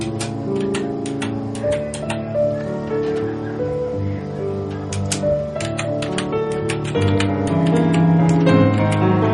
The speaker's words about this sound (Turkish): Ağzına aldığı bir kalem yardımıyla bilgisayarın tuşlarına dokunuyor ve bilgisayar kullanıyor.